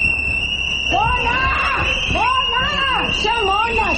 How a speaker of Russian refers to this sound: Свист, крики, плакаты с изображением Шарикова, персонажа «Собачьего сердца» Михаила Булгакова.